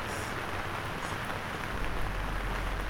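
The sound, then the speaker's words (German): Steady rain falling at 5:30, a dense, even hiss of drops across the whole stretch with no pauses, moderately loud, and no voices. “14 Uhr kam der Trek an, 16 Uhr der ausgebüxte Glockenwagen und 5:30 kommt Regen.”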